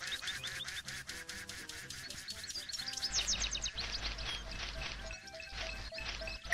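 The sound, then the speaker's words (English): Rapid, evenly spaced cartoonish duck quacks from a video game, loud, then a denser clatter of overlapping quacks and electronic game tones. No one speaks. “I'm coming, Mr. Duck.”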